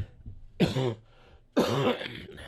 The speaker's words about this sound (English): I'm getting that cough tinge back.